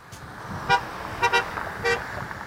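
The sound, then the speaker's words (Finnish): Passing cars honk their horns in short bursts in support of striking John Deere workers picketing at the roadside in Iowa's state capital, four toots spaced over a couple of seconds, above a steady rumble of traffic. “Ohjaavat autot tööttäävät tuen merkiksi tien varrella partioiville lakkovartioille.”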